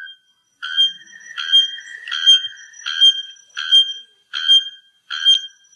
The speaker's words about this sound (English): Wikipedia translates the Araponga to a bellbird. So yeah, so it's a bellbird. Apparently there's different kinds of bellbirds, but they all make this ridiculous noise.